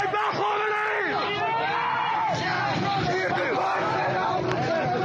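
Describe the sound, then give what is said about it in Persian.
A large, angry crowd of protesters shouts and yells over one another in front of a Basij militia resistance base in Hafshejan, Iran, in a loud, continuous roar of overlapping voices, with individual cries rising and falling throughout. “اینجا حفشجان است، خشم مردم معترض در مقابل پایگاه مقاومت بسیج.”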